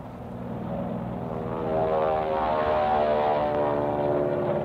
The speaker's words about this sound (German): Am späten Nachmittag kommen Flugzeuge. Spitfire und Mustangs.